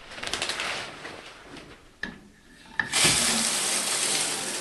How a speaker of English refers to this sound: If you'll forgive me for a moment, I'm going to take a quick shower.